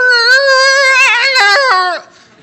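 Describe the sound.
A loud, awful imitation of an elk bugle made by a man on a mouth reed: one strained, whiny call held about two seconds, wavering and cracking in pitch before dropping off abruptly.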